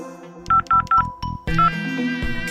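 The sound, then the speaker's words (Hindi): A phone number being dialed to call Arjun: five quick, evenly spaced keypad beeps, clear, then a steadier sustained tone as the call begins to connect. No voices. “अर्जुन स्नेहा के साथ है, एक बार अर्जुन को फोन लगाकर पूछता हूँ कि कहाँ है वो दोनों।”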